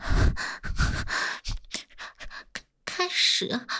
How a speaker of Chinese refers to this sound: 这，什么全音频录音机啊？能更直观的感受到声音的变化，这连呼吸声都会收录进去啊！